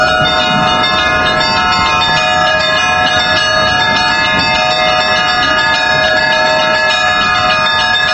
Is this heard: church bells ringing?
yes